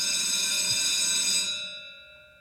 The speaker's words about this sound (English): Well, there it is. As true as the bell rings every day at Busted Pencils, we have our segment, Democracy in Action, and it couldn't ring more true to the perfect moment for that tonight.